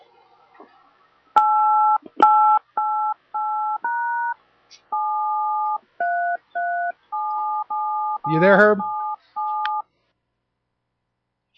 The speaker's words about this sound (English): There's somebody's keep on trying to dial a phone.